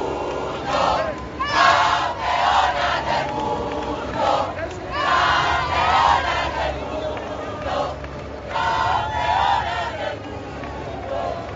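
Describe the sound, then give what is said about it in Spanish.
A football team shouts and cheers together during their family group photo, in excited bursts, loud overlapping yells rising and falling over about ten seconds with a steady background rumble. “Y estos son los gritos de la foto de familia.”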